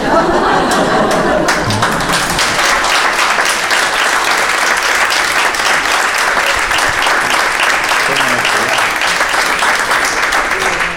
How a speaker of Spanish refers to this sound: Qué bien que nos vino ese aplauso.